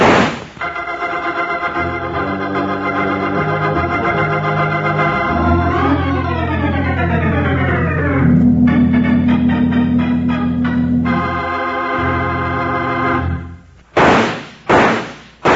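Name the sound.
three gunshots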